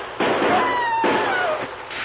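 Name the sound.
single gunshot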